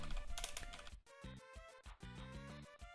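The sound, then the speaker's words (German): A quick flurry of clicky computer keyboard keystrokes, fairly loud, followed by a steadier tonal hum with short gaps. “Alter, kann ich keiner mehr tippen.”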